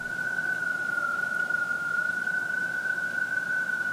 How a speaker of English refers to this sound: Gray tree frogs are a common and sometimes loud amphibian found throughout Virginia.